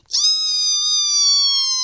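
A voice imitates a squeaky door creaking shut with one loud, high, steady squeal that starts abruptly and holds for nearly two seconds, alone.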